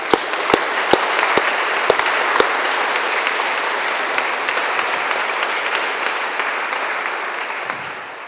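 A crowd applauds steadily, dense clapping filling the room with a few sharp, distinct claps standing out at the start, then tapering off slightly at the end.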